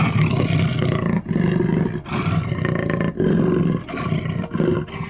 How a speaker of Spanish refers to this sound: Súbitamente el jaguar saltó desde el bosque y comenzó a rugir.